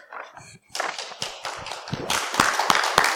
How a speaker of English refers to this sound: Oh, you don't have to clap. You don't have to clap. clap God, yeah, clap God. Amen.